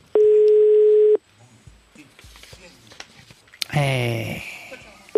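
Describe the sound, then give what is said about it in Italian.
A single loud, steady telephone ringback tone from the telephone of La Zanzara sounds for about a second, then cuts off, leaving faint line noise and a brief burst of voice-like sound near the end. “Squilla il telefono della Zanzara.”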